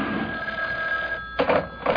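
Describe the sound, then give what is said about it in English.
A telephone, the boss's hotline, rings with a steady electronic trill, followed by two short bursts of the ring, loud and clear with no talking over it. “Oh, the boss's hotline.”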